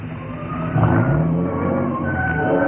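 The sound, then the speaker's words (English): A car engine rumbles steadily, its pitch dipping briefly as the car pulls into the side of the road at the edge of a cliff and comes to a standstill, with a faint tyre scrape mixed in; no voices. “It was as the car came to a standstill that I suddenly remembered.”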